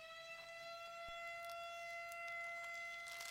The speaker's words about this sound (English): I might need more water to try to yell over this siren that's going off.